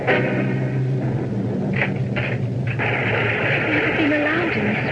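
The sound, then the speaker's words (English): The shutter of an open window bangs back and forth irregularly, a few hollow knocks over a steady wash of rain, with faint vocal sounds in the background. “The window is open, and the shutter is banging back and forth.”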